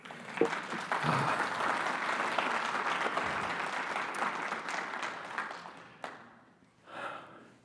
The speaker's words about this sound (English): Clap for him again. That was great.